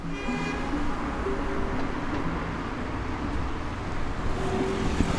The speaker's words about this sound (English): By Sunday evening, the traffic's back. It's quieter, but there are people out on the streets.